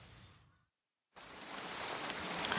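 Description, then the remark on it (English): Soft, steady hiss of light rain, broken by a brief silent gap, then returning and slowly swelling louder as the shower picks up. No one speaks. “I just felt a drop of rain.”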